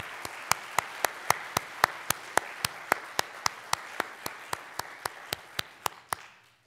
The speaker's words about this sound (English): So if you served or are serving in any branch of our military, would you stand and let us recognize you? Let's give them a well-deserved applause.